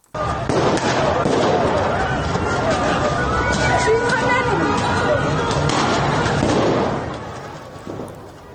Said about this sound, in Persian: در یاسوج مرکز استان کوکیلو و بویر احمد همچنین اونجا ویدیوهایی هم منتشر شده از شلیک گلوله، پرتاب گاز اشکاور. میریم به یاسوج.